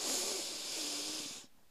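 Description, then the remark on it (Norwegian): A long, steady inhale through the nose, a soft airy hiss lasting about a second and a half before cutting off into quiet, taken as part of a guided breathing exercise before holding the breath. No talking. “Og da starter vi med å puste godt inn med nesa.”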